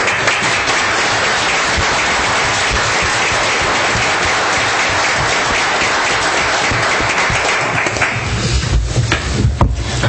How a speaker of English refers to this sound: Is his family here with him? Yes. Would his family please stand up and give you a clap, too